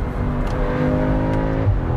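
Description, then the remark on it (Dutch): An S3 car engine revs up steadily as the driver downshifts and accelerates, a loud, continuous drone with a rising harmonic whine, heard alone without any talking. “Ik zal eens even terugschakelen en een beetje accelereren.”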